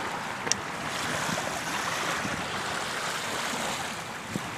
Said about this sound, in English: I don't know if you can hear the water, though. All right, come on. And what's happening is, like I said, like I'm just steps away. I don't know if you can hear the waves.